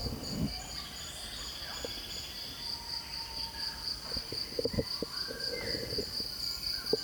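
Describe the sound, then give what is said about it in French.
A dense tropical forest chorus: a steady high insect drone runs throughout, with scattered calls of at least twenty bird species, geckos, gibbons and an orangutan, plus a few sharp clicks and low thumps, microphone handling and music played on a phone. “Voilà, donc à part ça, on entend une vingtaine de chants d'oiseaux au moins, des insectes, des geckos.”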